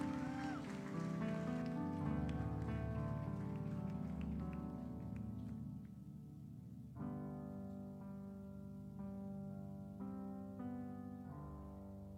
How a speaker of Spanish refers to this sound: Iglesia, dale otro fuerte aplauso al Señor. Aleluya. Él es fiel.